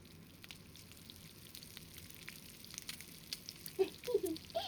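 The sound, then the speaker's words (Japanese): Chicken karaage (Japanese fried chicken) deep-frying in hot oil, a steady soft sizzle with dense crackles and pops that grow a little busier toward the end, fairly quiet and heard on its own. “なんかさ、この油で揚げる音っていいよね。じゅわじゅわって音がすっごい残るっていうか、耳が幸せっていうか。”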